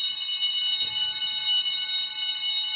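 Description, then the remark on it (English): A bell rings continuously and loudly for the whole stretch, a bright, sustained metallic clangor that never pauses, with no talking. “I love the bell, Captain. I just can't stop ringing it.”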